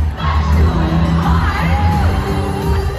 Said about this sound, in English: Oh my gosh. This is such an overwhelming experience. There's just so many people, and they're all like stomping in time to this very loud drum.